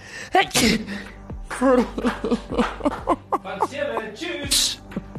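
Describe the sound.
A sharp sneeze bursts out near the start, with another breathy burst toward the end, while people talk and chatter throughout.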